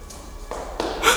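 Three or four footsteps on a stone spiral staircase leading to a tower room, evenly paced and growing louder as they approach, with a soft scuffing texture and no voices.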